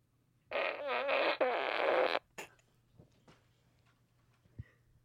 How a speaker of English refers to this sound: Okay, so here comes fart number one. Here comes fart number two.